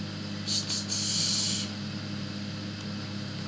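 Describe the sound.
A voice imitates a snake's hiss: two quick hissing bursts run into a longer sustained hiss, followed by a low, quiet hum.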